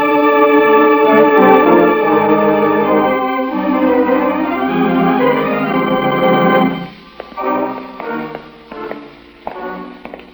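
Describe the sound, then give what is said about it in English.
A sustained, swelling musical drone gives way to a handful of irregular, echoing footsteps of someone approaching, a man dressed in a priest's robe, each sharp tap trailing off in reverberation over a softer lingering tone. “I heard an echoing footstep.”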